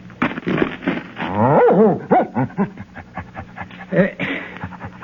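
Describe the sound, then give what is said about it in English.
A dog whimpers and whines in a string of high, wavering cries, fairly loud, mixed with panting-like breaths and some background commotion. “But will somebody show me how I can pin this medal on the dog?”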